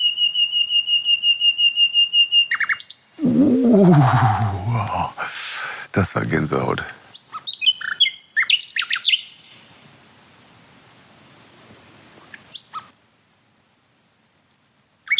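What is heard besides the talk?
nightingale singing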